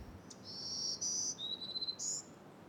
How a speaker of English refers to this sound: these are some of the bird songs you might be greeted with. Black-throated green warblers are small, boisterous birds that are one of the most common summer residents of the coastal spruce fir forest.